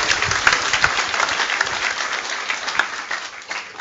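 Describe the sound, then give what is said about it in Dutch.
Sustained audience applause fills the space, a dense wash of many hands clapping at once, steady and fairly loud throughout with no voices standing out. “Maar ongetwijfeld zal je ook van dit publiek een warm applaus krijgen.”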